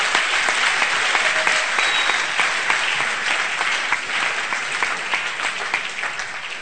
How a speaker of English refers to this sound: Oh, you can clap unto the Lord.